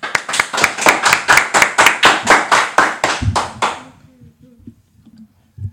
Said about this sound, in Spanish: Muy bien, muchas gracias por contarnos un poco lo que ha pasado este mes en el cole. Un aplauso.